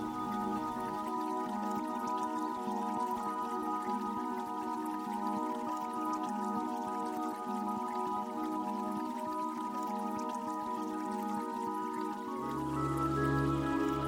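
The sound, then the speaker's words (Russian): A gentle babbling forest brook trickles steadily beneath soft, sustained musical tones, the water a continuous murmur throughout with no voices. “Вы спокойно смотрите на воду, слышите журчание воды.”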